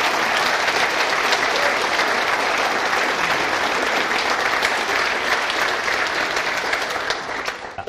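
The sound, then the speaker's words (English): An audience at an evening service gives the readers a round of applause, clapping steadily for several seconds. It is a dense, loud patter of many hands that holds even throughout before starting to thin out at the very end. “Okay, well, why don't we give all our readers a round of applause at this stage for him.”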